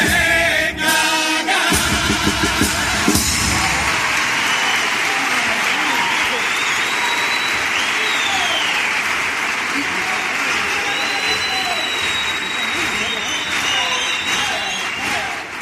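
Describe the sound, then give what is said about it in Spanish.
Loud, sustained crowd applause fills the whole stretch, a dense wash of clapping that holds steady throughout, with a few whistles and shouts rising above it and some brief rhythmic claps at the start. The audience is applauding after the performers finish the chorus of a song. “Ahí la pose clásica, aguantando el aplauso del público después de rematar el estribillo por Cádiz, ¿no?”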